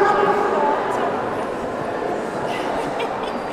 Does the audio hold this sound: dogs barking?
yes